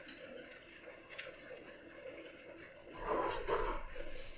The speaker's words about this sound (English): Here, you can listen to the sizzle. This is the sizzle. I brought my pan over. I'm not confident enough to flip my omelet with like a pan flip.